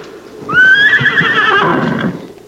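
horse neighing

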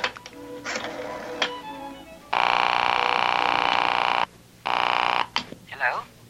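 telephone being dialed

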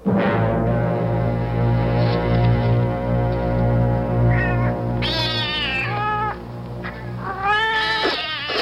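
cats meowing

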